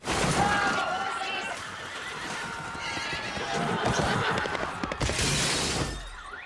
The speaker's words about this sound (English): So we open with this powerful, majestic view of horses on the streets of Boston, and then all hell breaks loose. The horses run wild after your cousin from Boston accidentally sets them free.